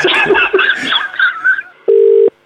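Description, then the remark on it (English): After a brief burst of laughing voices, a loud, steady telephone dial tone sounds in repeating beeps, one long beep followed by the start of another, as the line goes dead after the caller hangs up. “He's hung up”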